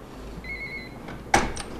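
doorbell ringing

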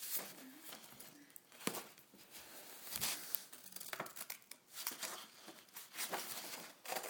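scissors cutting paper

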